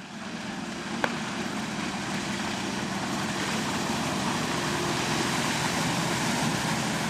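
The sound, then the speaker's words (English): A white motorboat with twin 250 engines cruises by on Beaver Lake, pulling two water skiers of the Northwest Arkansas Water Ski Show Team. Its low engine hum drones steadily, blended with a broad rushing wash that swells slightly as it passes, with a brief click early on. “On Wednesday evening, a white boat with twin 250 engines in the back cruises by, pulling two water skiers behind it.”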